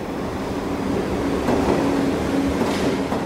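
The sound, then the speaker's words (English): A subway train rumbles by, a steady, loud roar of wheels and rails with faint metallic squealing tones rising near the end. No one speaks. “What I can't see myself doing is lying atop the victim while the train passes over me.”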